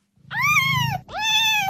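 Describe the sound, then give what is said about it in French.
Two high, drawn-out meows from small kittens follow one another closely, loud, the second starting right after the first with a brief gap. No one speaks. “Oui, c'est des petits chats.”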